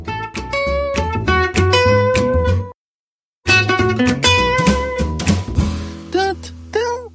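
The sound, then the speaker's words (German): A bright, upbeat intro jingle for the 'Mentos Katzenbazar' segment, with layered melodic instruments and a steady bass rhythm, plays loudly, briefly cuts to silence, then resumes with sliding, playful tones near the end. “Ach, ich liebe diese Musik.”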